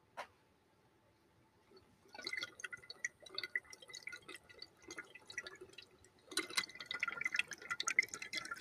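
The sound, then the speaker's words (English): Fresh water gurgles and bubbles steadily through a glass pipe for several seconds, swelling into a louder, more vigorous burst of bubbling near the end, with no talking. “Let's send it. Listen to this chug.”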